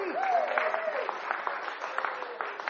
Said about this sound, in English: Well done. Well done. Give yourselves a clap.